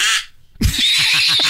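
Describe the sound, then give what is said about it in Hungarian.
A quick run of about five nasal, duck-like quacks, imitated rather than from a real bird, follows a brief pause. The calls come in a steady rhythm, fairly loud. “Na mutasd, mit csinál a kacsa, figyel?”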